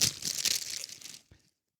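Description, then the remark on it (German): Busy crinkling and rustling of a plastic bag being pulled open to unwrap a book, lasting about a second, then a soft knock before it falls silent. No one speaks. “Es ist eingepackt und au, ich habe mich hier so gelümmelt, dass ich das nicht gut. Es macht Geräusche.”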